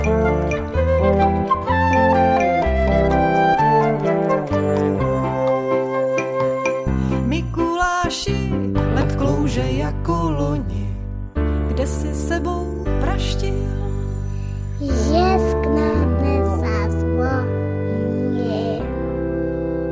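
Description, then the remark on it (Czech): Bells ring and jingle for the whole stretch, bright layered tones with sharper chimes breaking through every few seconds above a steady low hum. Loud and continuous, with no talking. “Zvonění takové už možná skoro mikulášské.”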